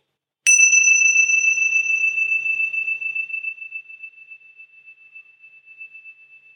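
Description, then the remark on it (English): A meditation bell is struck once, its bright metallic tone ringing out clearly and slowly fading over several seconds into a long, thin sustain. No one speaks. “And then just notice the movement of the sound of the bell through time.”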